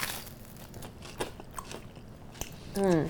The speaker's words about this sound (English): See, when I say oily bread crunch, I don't really know how to describe it, but...